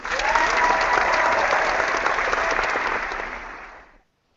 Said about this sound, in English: Yes, no, thank you. Let's give him a round of applause for that.